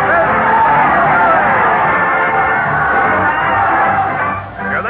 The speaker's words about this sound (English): Listen to that crowd cheer as Fred Allen leads his parade of stars to the old Town Hall.